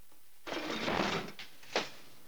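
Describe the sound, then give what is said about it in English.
Colombo rolls a drawer open with a rough, scraping slide lasting nearly a second, then after a short pause slams it shut with one sharp, loud knock. No voices. “Colombo opens a drawer, then slams it.”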